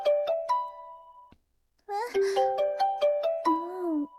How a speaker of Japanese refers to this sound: 何もしないから、電話に出て確かめて。あ、切れた。